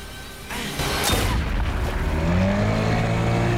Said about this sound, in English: Pacho finishes Manito off with a bullet in his back.